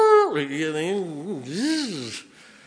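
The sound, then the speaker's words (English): A person imitates a wolf howl: one sustained, loud vocal wail that starts high, drops, then wavers up and down for about two seconds before trailing off. “And then one of those old wolves starts howling.”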